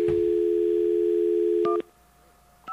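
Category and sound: signal or alarm, telephone dial tone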